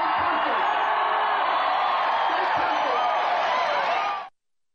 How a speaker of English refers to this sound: You hear that cheering? That is rock star cheering. That is rock show cheering.